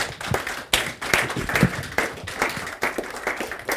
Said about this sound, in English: First, give him a round of applause. Thank you very much.